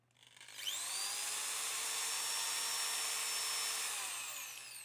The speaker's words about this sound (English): So that's a 10mm drill.